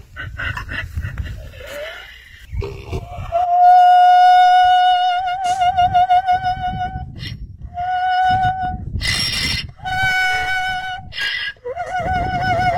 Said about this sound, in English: That's a donkey making that sound. That's Harriet the opera donkey.